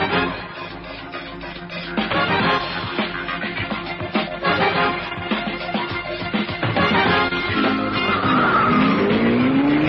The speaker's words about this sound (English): I've been in some car chases and the like in my lifetime, but this took a flipping cake.